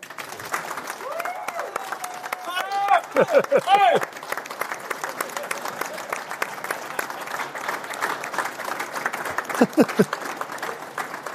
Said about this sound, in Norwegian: At allihop som nå skal være med og gi en fantastisk stor applaus.